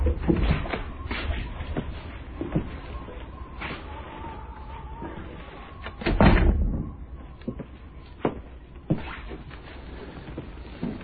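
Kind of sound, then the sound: household object, door opening and closing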